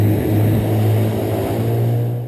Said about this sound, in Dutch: Wat een geluid voor die walvissen, dat jullie met zo'n bootje langskomen. Ja, nee, dat is toch al heftig.